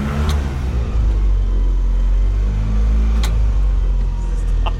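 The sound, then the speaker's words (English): A car engine revs, its deep rumble rising and falling in steady surges, with a few brief clicks on top and no talking. “Revving it, dude.”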